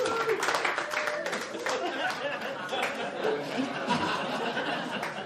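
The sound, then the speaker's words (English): A stand-up comedy audience claps steadily for several seconds as married people answer the comedian's question by applause, the scattered clapping mixed with murmuring chatter and a few chuckles, at moderate volume. “Do we have married people by applause here?”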